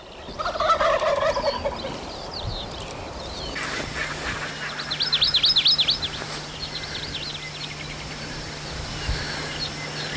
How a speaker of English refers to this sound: I want to tell you as well is that you hear all the sounds, but it's dark. It's too dark for video, too dark to see the turkeys, but you can hear them.